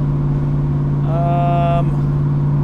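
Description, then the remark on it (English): A car exhaust drones steadily at highway cruising speed, about 65 miles an hour at 2200 RPM in traffic, a loud, constant low hum throughout, with a brief higher tonal whine rising over it midway. “There's a bunch of traffic, so I'm not really going to be able to move around the rev band too much, but hopefully this gives you guys some idea of the resonance with this exhaust setup.”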